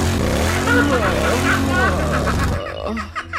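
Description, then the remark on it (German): A motorcycle-shaped novelty wall clock plays its half-hourly motorcycle engine sound: a loud engine revs up and down in sweeping pitch for a couple of seconds, then cuts off into a brief rattling, sputtering tail. “Eine Wanduhr in Motorradform. Aber pass mal auf, das Beste kommt noch. Zu jeder halben Stunde macht es das hier.”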